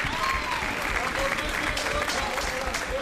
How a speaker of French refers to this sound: Bienvenue au Bamundu, que je vous demande d'applaudir très fort, s'il vous plaît.